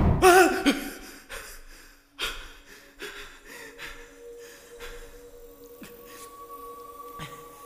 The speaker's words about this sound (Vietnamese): Xí bừng tỉnh, hớp lên một mẻ không khí như thể cả năm trời nó không được thở